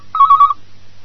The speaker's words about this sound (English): The phone's ringing. It's okay, I'll answer it. I'm expecting a call.